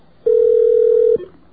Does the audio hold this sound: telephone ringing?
yes